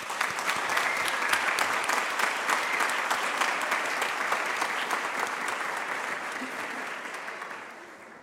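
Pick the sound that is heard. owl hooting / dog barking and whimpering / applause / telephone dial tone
applause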